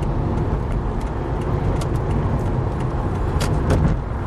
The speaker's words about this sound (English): it's sort of heavy truck land here, right? Yeah, just the big monsters coming on here. And they are doing the speed limit, and your gosh.